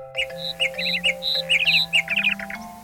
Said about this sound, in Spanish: El pájaro Pix Pix, sobre la rama de un árbol, cantaba anunciando un mensaje.